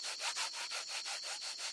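A strange, dry scraping as a bumblebee rubs its wings against its legs, trying to sound like crickets: about eight quick, even strokes in a steady back-and-forth rhythm, hissy and high-pitched, with no voices.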